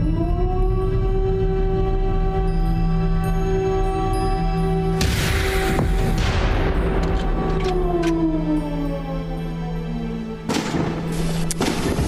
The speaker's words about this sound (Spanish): El estruendo de los rifles y cañones nos ha despertado. Los fogonazos de las bengalas y los disparos de fusil iluminan el barracón.